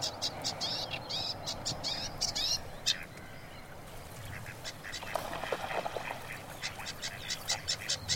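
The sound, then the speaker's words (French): A sedge warbler (phragmite) sings from reeds, a rapid, scratchy chatter of repeated short notes running almost continuously, over a low, steady outdoor rumble. “Donc il a la même couleur que les roseaux et il porte le même nom que les roseaux.”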